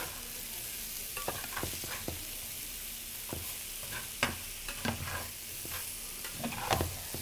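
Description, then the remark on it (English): Food sizzles steadily in a hot pan with a broad hiss, while a utensil stirs and scrapes in irregular clacks and knocks. No voices are heard. “Believe it or not, these are cooking.”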